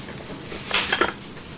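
A spoon knocks and scrapes against a cooking pot in a brief cluster of light metallic clinks, fairly quiet, with no one talking.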